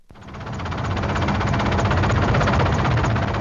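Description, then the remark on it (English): A helicopter roars, its rotor beating in a fast, steady chop over a thick engine drone that swells in at the start and holds loud throughout, with no voices, during a flight over flood-devastated Lensk in Siberia, Russia. “A helicopter ride over Lensk is a sobering experience.”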